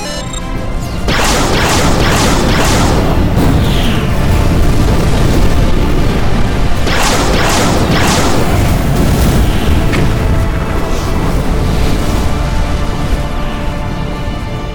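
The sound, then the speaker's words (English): A loud, sustained barrage of ship cannon fire and explosions as all cannons fire on the engine mass of a capital ship, with bursts of sharp booms in rapid clusters over a constant heavy rumble, dense throughout. “I want you to target the engine mass on the closest capital ship. Aye, sir. Target configuration lock on, sir. All cannons. Fire!”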